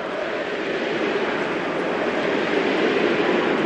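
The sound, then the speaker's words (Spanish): A stadium crowd at the Santiago Bernabéu roars and applauds in support of Vinicius at minute 20 of a football match, a dense, continuous wash of noise that stays loud and steady throughout, with no one speaking over it. “Minuto 20 en el Santiago Bernabéu. El sonido era este.”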